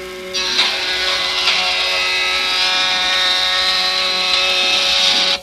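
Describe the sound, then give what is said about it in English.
A power tool in a school machine shop, where students work on their projects, runs with a steady, high-pitched harmonic whine for about five seconds, loud and unbroken, then cuts off abruptly. No one speaks. “When we walked past the machine shops, we could hear how anxious the boys, and girls too, were to get their projects done.”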